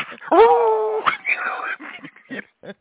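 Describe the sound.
A person imitates a whimpering puppy with a sustained, high, whining tone, then breathy yelping noises and a few short bits of speech.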